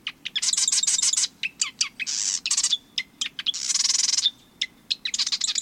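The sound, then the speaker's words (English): A marsh wren sings its sewing-machine song: loud bursts of rapid, mechanical rattling trills separated by short chirps and clicks, repeating throughout with no voices. “When you're near a marsh this time of year, listen for the marsh wren's sewing machine song.”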